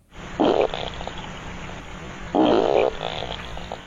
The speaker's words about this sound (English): Yeah, try the old double fart from the beaver. Huh. Beaver fart. That sounds like a shot.